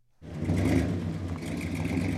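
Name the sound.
car engines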